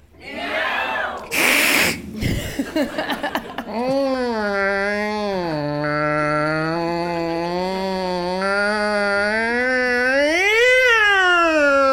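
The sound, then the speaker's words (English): After a few seconds of laughter and noisy bursts, a person lets out a long, strong imitation of a cat's meow, its pitch wavering and swooping upward near the end. “But a strong meow, less apathetic.”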